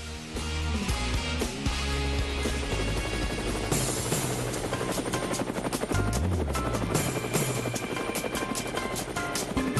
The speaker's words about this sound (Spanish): Bueno, ahí está el helicóptero y ya estamos montados para ver a dónde nos lleva mi colega